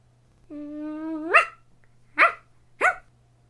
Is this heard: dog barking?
yes